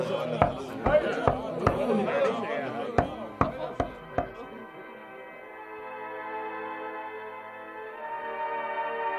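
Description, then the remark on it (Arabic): Two bursts of sharp knocking on a house door, about four raps each, ring out over a busy background of voices and tones, then give way to a steady, sustained musical drone. “حسنا، لأطلق الباب.”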